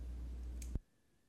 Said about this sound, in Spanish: Vamos a hacer clic en siguiente.